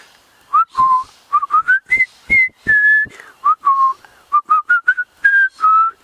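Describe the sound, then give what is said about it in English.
A person whistles the jaunty Colonel Bogey March, clear and fairly loud, mixing quick clipped notes with longer held ones in a steady, bouncy rhythm, with no talking. “And I'm going to whistle.”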